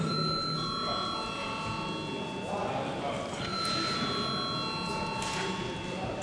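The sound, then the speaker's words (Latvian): A bell rings continuously in a parliament chamber before a vote, its steady high tones sustained across the whole stretch, with a low murmur of voices and shuffling underneath. “Debats beidzam. Lūdzu zvanu.”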